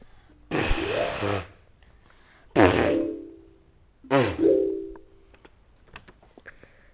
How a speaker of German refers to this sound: Der Elefant trompetet.